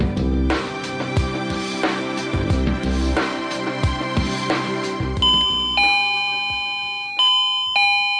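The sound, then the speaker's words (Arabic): A doorbell rings over and over, its bright chiming tones striking in quick succession, then settling into a few longer, ringing chimes that hang and fade. No one speaks. “يعني انتوا ما سامعين الباب ده؟”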